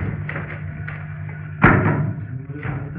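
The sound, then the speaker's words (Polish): Books tumble down with a loud, dull thud, followed about a second later by a softer second thump, over a low steady background hum and no talking. “Spadły książki.”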